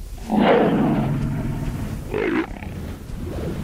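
A leopard roars loudly in stereo, a deep rasping growl that swells, dips, then surges again before trailing into a low rumble; no voices are heard. It is the emblem of the Locarno film festival, played before each film.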